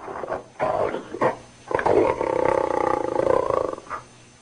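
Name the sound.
tiger roaring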